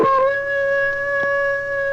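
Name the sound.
wolf howling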